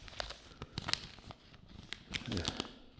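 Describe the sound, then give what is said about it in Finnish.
A sheet of paper being torn out, a series of sharp crackly rips and crinkles over about three seconds, with a denser tearing burst near the end. “Kiskaisin tämän.”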